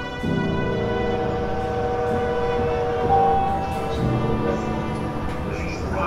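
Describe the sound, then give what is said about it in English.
The Venice Simplon Orient Express passenger train, with a powerful engine, rolls steadily along the rails, a continuous rumble layered with sustained droning, horn-like tones that swell slightly midway before settling back. “The Venice Simplon Orient Express has a powerful engine, perfect for anyone who wants to disappear or hide their deepest secrets.”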